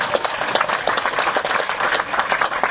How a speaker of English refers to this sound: Yeah, you owe yourselves a round of applause.